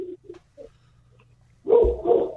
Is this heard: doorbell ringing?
no